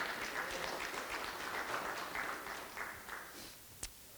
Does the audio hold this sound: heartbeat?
no